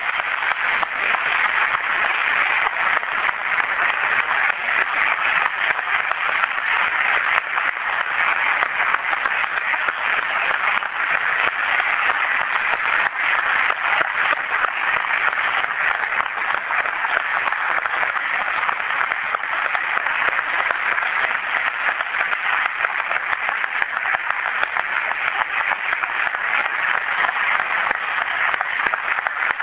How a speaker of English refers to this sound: Could we have the track team please come up here so that we can give them a round of applause?